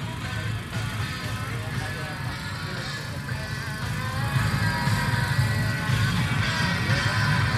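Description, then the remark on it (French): Quad and motorcycle engines at an enduro race, the French cross-country championship on 6 May with 200 quad and motorcycle riders, drone and whine steadily throughout, a continuous buzzing mix that grows slightly louder toward the end, with muffled voices blending into the background. “L'équipe du Mac Jeune s'est rendue le 6 mai au championnat de France de cross country, qui a réuni 200 pilotes de quad et de moto.”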